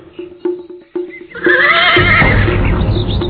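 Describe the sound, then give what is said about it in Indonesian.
A few hoof clip-clops sound at first, then a horse, whose rider jumps down from its back in the middle of a road, lets out a loud, drawn-out whinny that fills the rest of the moment with no voices. “Rake Hambulu melompat turun dari punggung kuda, kemudian menghampiri gadis itu yang berdiri di tengah jalan.”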